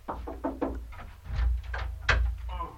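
A house door is opened in answer to a knock: a series of wooden rattles and clicks, then two heavy low thuds as it swings and settles, with no voices.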